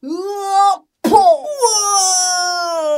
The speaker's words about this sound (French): Boccornu pousse un cri à décorner les bœufs.